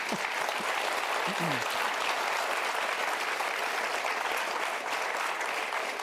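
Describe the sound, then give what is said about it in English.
An audience claps steadily at the end of a talk, before a Q&A, a dense, sustained wash of applause holding at an even level for several seconds, with a few faint voices mixed underneath. “I'm going to ask the applause before we go to Q&A.”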